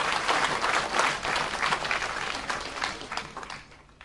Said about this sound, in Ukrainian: Під ваші оплески постанова, теща та зять. Під ваші оплески.